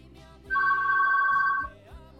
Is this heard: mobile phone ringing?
yes